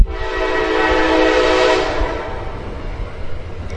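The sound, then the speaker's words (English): A loud train horn blares steadily for about two seconds while a New York train rumbles past, then the horn cuts off and the low clattering rumble of the cars continues. “It's a New York train.”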